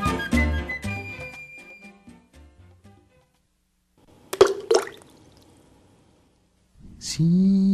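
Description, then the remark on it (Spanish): A single small stone is thrown into water with a sharp splash and a brief watery gurgle, clear, between stretches of ringing tones and quiet. “Ahí está la piedrita que se tira al agua y que hace unas ondas súper redonditas en la superficie.”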